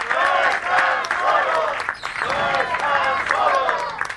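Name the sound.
applause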